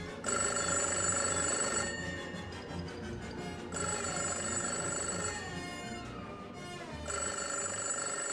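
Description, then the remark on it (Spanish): A telephone rings in steady, bright bursts, three rings separated by short pauses, loud with no voices. “Y tenemos al teléfono nada más y nada menos que a la susodicha señora de Voronchov.”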